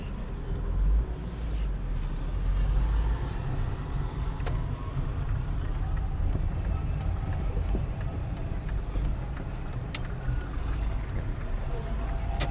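Busy street traffic with cars, yellow taxis and many mopeds rumbling past in a steady, dense wash of engine noise, punctuated by scattered brief sharp sounds throughout.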